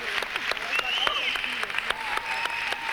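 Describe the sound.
An audience claps steadily and densely for the full three seconds, sharp overlapping claps at a constant loudness, with voices calling and murmuring underneath.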